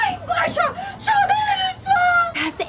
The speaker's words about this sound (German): Na toll, von mir aus kann sie lange schreien.